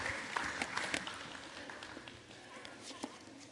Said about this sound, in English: With a big round of applause, kids' church is dismissed out the back end, and the youth group.